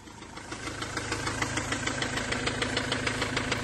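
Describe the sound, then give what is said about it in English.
A silver Transit van's diesel engine runs steadily while the van reverses, its low rumble carrying a rapid, regular knocking pulse throughout, with no voices present. “So they're reversing now up the bar in.”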